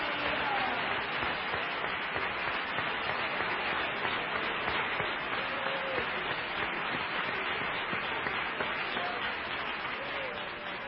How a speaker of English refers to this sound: Praise God. Just give the Lord a clap offering.